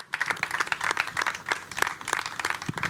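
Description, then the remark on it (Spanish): Steady applause from an audience, many hands clapping in a dense, crackling wash that holds at a moderate level for a few seconds with no voices. “Para todas ellas, por favor, de nuevo un aplauso.”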